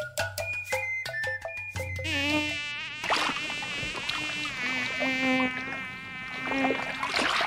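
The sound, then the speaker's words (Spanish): A few sharp clicks and steady tones open, then a loud mosquito buzz takes over, a continuous high whine that wavers in pitch as it hovers, with no voices. “El dengue es una enfermedad infecciosa de causa viral que es transmitida por mosquitos, principalmente por el mosquito llamado Aedes aegypti.”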